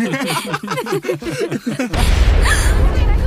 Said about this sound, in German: Was war das denn? Ist unser Vielfraß jetzt geplatzt? Hört es sich an wie eine Explosion. Eine Explosion im Fürstenwald?